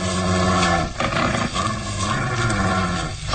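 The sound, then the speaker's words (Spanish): A deep, rumbling growl from a badly wounded, dying wild animal rolls on steadily for a few seconds, low and loud with rough, throaty texture and brief dips, snarling menacingly. “Mire... gruñe amenazador. Y que aunque está moribundo es capaz de atacar.”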